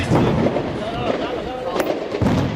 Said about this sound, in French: On les entend en ce moment, il y a des coups de feu énormes. Vous les entendez ? Écoutez.